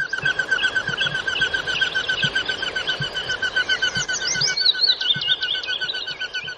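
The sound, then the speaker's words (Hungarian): Common goldeneye wings whistle in flight: a steady, rapidly pulsing, vibrating whistle that runs throughout, with scattered high chirps and soft low thumps mixed in and no voices. “A kertszeréce repülés közben a tollai ilyen érdekes rezgő hangot adnak.”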